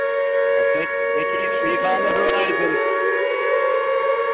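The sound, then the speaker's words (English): A steady, droning air raid siren wails continuously at high volume, its layered tones holding without pause, with a faint murmur of other sound beneath it. “Yep, our air raid sirens are picking him up.”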